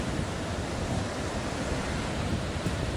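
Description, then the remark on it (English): A steady, full roar of ocean surf washes continuously, fairly loud, with no distinct breaks between waves and a faint windy hiss on top. No voices. “If there was just nothing but the sand and the sea and the surf, we could be natural.”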